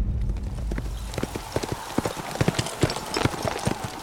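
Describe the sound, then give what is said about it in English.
Hooves clip-clop in an uneven, overlapping rhythm as four riders on horseback ride to a river and cross a bridge, the sharp knocks rising over a low rumbling background. “The four of them rode to the river without incident, found the new bridge, and crossed it into Aretex territory.”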